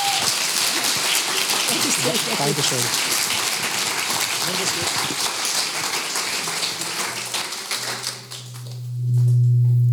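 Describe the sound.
An audience applauds with dense, sustained clapping for about eight seconds while a voice briefly speaks over it, then the clapping thins out and a low steady hum remains.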